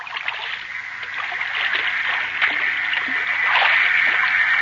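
Water laps and sloshes steadily against the hull of the schooner Spindrift, anchored in Manila Harbor at night, with small splashes rising now and then, fairly loud, with no voices.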